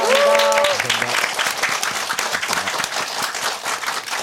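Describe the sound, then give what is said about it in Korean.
A show's audience breaks into sustained, dense applause for its guests, lasting several seconds, steady and fairly loud, with a brief harmonic voice-like tone at the very start. “네, 함께해 주신 서정민갑, MC 메타, 서문탁 씨께 큰 박수 보내주십시오.”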